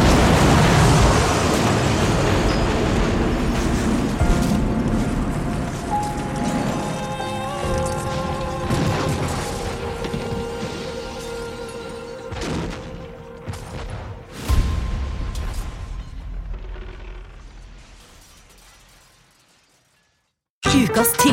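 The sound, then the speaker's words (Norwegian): A huge, sustained crash as a KLM airliner's engines and undercarriage collide with a Pan Am jumbo jet at an airport: roaring, grinding noise with ringing metallic tones echoing across the airport, a sharp burst midway, then a long fade toward silence before a sudden loud hit at the end. “Et forferdelig brak gir ekko over hele flyplassen I det KLM-flyets motorer og understell kolliderer med Pan Am-flyet.”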